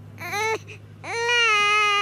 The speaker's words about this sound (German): Die Kleine weint viel.